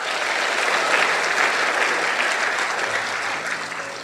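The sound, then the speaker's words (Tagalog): An audience claps loudly and steadily, a dense wash of many hands applauding at an even level for several seconds with no voices standing out. “Meron pa kayong ilalakas na palakpak riyan.”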